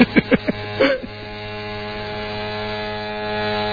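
An electric shaver hums steadily as a man shaves, a constant motorized buzz that runs through the whole stretch after a few short clicks and bumps at the start.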